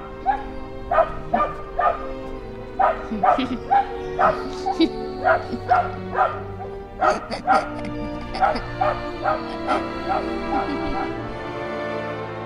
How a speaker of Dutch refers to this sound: Ja, maar waarom blijft die hond huilen? Ja, er is iets met die hond.